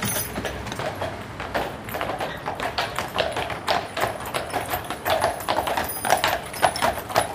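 Steady clip-clop of draft horses' hooves on a hard road as they pull a wagon on a ride to a nearby forest, past the red and yellow brick castle where Feldschlösschen beer is brewed; a continuous rhythmic patter with wagon rumble beneath, moderately loud throughout.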